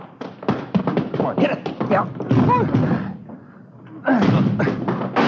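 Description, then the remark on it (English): Heavy, irregular thuds of a blocked front door being rammed, with something piled against it, blow after blow, with a brief lull before another loud burst of pounding; indistinct voices mix in among the impacts. “Come on, hit it again. Yeah, all right. Come on. They got it blocked or something.”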